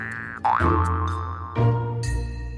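A cartoon boing plays, a springy wobbling twang with a bouncing pitch, followed by a couple more quick boinging bounces, loud with no talking.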